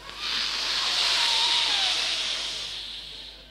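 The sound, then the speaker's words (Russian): A person breathes in deeply through the nose, producing one long, steady airy hiss that swells and slowly fades, imitating the wash of surf on a shore. “Значит, нужно зрителям изобразить волны. Делать это очень просто. Точнее, не волны, не просто волны, а шум прибоя.”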